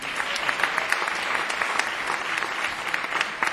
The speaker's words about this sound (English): But before that, if we could please get another round of applause for our opener this evening